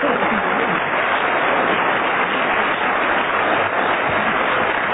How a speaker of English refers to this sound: The audience has been following that cross-examination with intense interest, which is more than I can say myself, and therefore I'm going to hand over to them once again to signify by their applause anything they like, really.